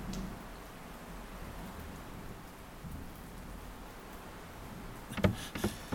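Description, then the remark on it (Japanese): Steady, dense thunderstorm rain hisses and patters continuously, with a low rumble underneath; near the end a few sharper cracks and splashes stand out above the downpour. No voices. “なんてひどい雷雨だ。”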